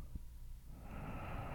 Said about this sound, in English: Listen to my breathing.